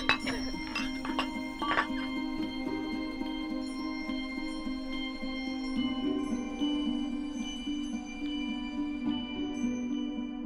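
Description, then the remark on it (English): Several quick glassy clinks in the first couple of seconds, like glasses touching in a toast, followed by a long, fading high-pitched ring over a steady low hum. “Let's do this once again. Okay. Cheers. Cheers.”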